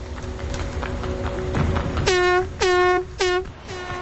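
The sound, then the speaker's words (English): Guerrillas in a canopied truck sound its air horn: four loud blasts in quick, uneven bursts, each a blaring harmonic tone, following several seconds of rumbling engine and road noise. “Others in the canopied truck set up a rocket launcher and sound an air horn.”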